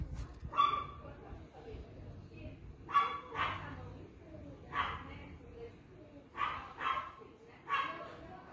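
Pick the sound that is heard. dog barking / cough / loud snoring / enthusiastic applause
dog barking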